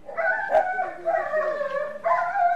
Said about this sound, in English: Every year, the dogs are rounded up and caged in shelters like this one.